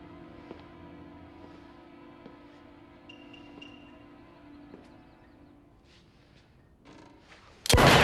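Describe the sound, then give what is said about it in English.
A single loud, sharp shot from a woman's handgun, felling a man, bursts out at the very end, cutting abruptly through a quiet bed of low sustained tones and soft scattered clicks. “The dark-haired woman fells him with a shot from her gun.”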